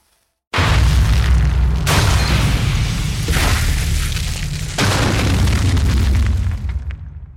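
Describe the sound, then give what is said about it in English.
A sudden, powerful gunpowder explosion aboard a pirate ship erupts into a deep, sustained roaring rumble, with two more heavy blasts following a few seconds apart before the noise finally trails off, leaving the ship in flames. Loud, no voices. “Charlotte turned to see the pirate ship engulfed in flames and sailing away without a crew”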